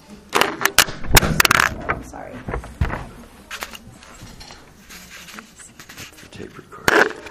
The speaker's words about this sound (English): Sorry to the listening audience. Listening audience, that big bang was the falling recorder.